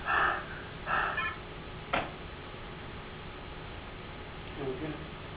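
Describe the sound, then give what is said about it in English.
A person demonstrates heavy mouth breathing: two quick, noisy breaths about a second apart, then a sharp click and a fainter, softer breath near the end. “So what happens if you breathe like this all the time?”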